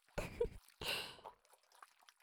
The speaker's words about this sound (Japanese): スケベな水音が脳内まで響いて、全身が溶かされるような快感。